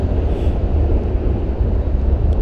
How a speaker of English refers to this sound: It is about to get very loud because there's a big old train crossing the steel bridge.